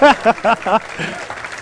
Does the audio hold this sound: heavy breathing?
no